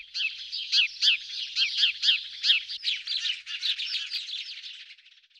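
A lively cluster of sparrows chirps continuously, with rapid, overlapping high-pitched tweets for several seconds, steady before fading out at the end.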